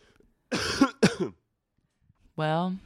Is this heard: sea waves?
no